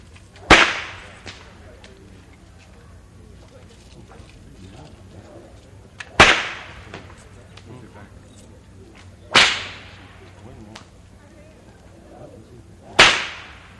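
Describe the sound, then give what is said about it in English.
A man demonstrates whip cracking: four sharp, loud whip cracks ring out at uneven intervals, each a sudden snap with a brief echoing tail, over a faint background murmur. “We'll take the whip first,”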